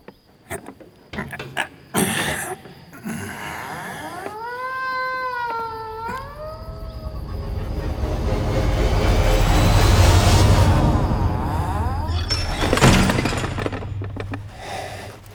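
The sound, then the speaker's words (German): The caretaker opens the heavy iron entrance door of Morley House; it creaks open with a wavering, high-pitched groan that bends up and down, then a long grinding rumble builds and ends in a loud metallic clank. “Knarzend öffnete der Verwalter die schwere Eisentür.”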